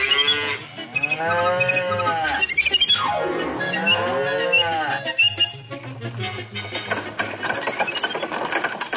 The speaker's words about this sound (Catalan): Ara tenim bestiar.